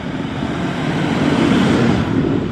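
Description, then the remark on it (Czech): A convoy of nearly thirty tractors and other agricultural vehicles, mostly decorated with Czech flags, sets off from the farm cooperative in Mrákov on a protest drive toward Česká Kubice and Folmava. A loud, steady rumble of heavy engines swells slightly before easing, with no voices. “V 10 hodin se tady z družstva v Mrákově necelá třicítka traktorů a dalších vozů zemědělské techniky, většinou ozdobených českými vlaječkami, vydává na protestní jízdu ve směru na Českou Kubici a dále na Folmavu.”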